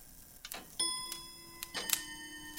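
grandfather clock ticking

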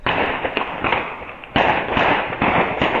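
gunshots

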